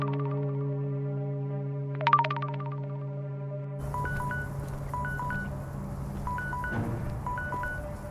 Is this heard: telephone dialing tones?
yes